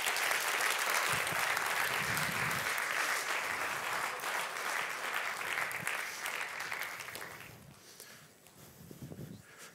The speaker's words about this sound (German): Und komm, gebe dir doch einen rechten herzlichen Applaus.